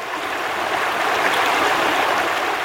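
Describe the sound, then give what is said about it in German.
A babbling brook in the Emmental hills flows steadily, its bright, splashing water filling the whole moment with a continuous rush and no voices. “Aber eben, die Bäche, die haben fröhlich plätschert.”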